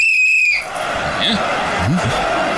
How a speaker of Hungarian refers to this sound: Micsoda síp! Milyen sípod van?